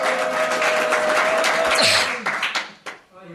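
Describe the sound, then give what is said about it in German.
An audience cheers and claps loudly on the speaker's request for about two seconds, a dense roar of voices and applause that tapers off, followed by a brief voice speaking. “Also jubelt doch mal, cheert doch mal an.”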